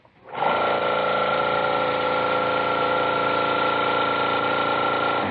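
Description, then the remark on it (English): A spray gun spraying paint starts up and runs in one steady, loud burst of hissing, whirring noise with a faint high whine, holding constant for about five seconds without voices. “Yeah, that's him back there with a spray gun, isn't it?”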